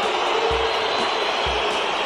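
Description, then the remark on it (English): A football stadium crowd of French fans booing in a steady, loud, unbroken roar after a goal for host country France against Brazil in the first knockout stage is disallowed for a foul on the goalkeeper, with a couple of dull low thumps underneath and no clear voices standing out. “You can hear the boos there from the French crowd.”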